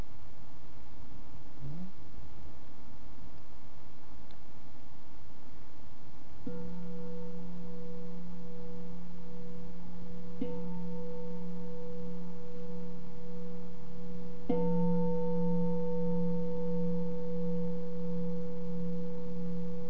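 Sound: meditation bell ringing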